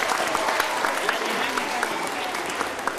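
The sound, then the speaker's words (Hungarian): An audience applauds itself for about three seconds, a dense patter of many hands clapping at once, evenly loud throughout. “Köszönöm szépen, tapsoljuk meg magunkat, nagyon ügyesek voltatok.”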